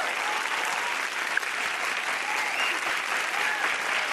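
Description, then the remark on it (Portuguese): Steady audience applause for the mother of Larissa Manoela, a dense, even wash of many hands clapping at a constant loudness without pause. “Vamos aplaudir a autora de Larissa Manoela.”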